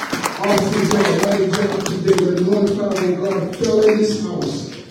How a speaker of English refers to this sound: Come on, let's give the Lord a hand clap of praise by praise to him.